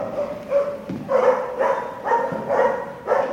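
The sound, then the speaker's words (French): Several French national police dogs bark over and over in kennel boxes at their training site in Canécluse, Seine-et-Marne, loud and reverberant, the barks overlapping in a steady rhythm of about two per second with no one speaking. “Il faut savoir que la première préoccupation du chien, c'est d'être en extérieur du box avec son maître, parce que eux travaillent pas, ils jouent.”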